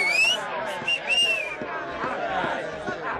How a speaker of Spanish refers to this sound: Los nazarenos comenzaron a patear y a silbar contra Jesús.